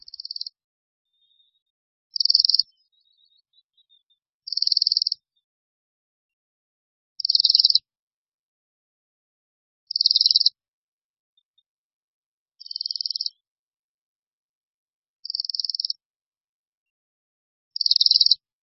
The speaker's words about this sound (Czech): Ne každou zimu můžeme uslyšet svrčivý hlas Brkoslava Severního.